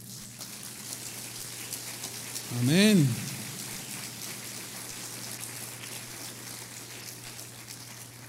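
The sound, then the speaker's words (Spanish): Steady applause of praise from a crowd, a dense, even patter of many hands clapping that lasts several seconds, with one voice calling out briefly near the start. “Esto merece un aplauso de alabanza.”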